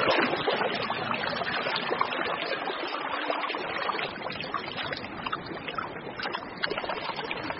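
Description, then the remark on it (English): A freshwater stream flows steadily through a forest, its continuous rushing and splashing babble filling the scene at an even level with no voices. “A freshwater stream through the forest makes a handy highway for a parent penguin heading home from a fishing trip with a crop full of food.”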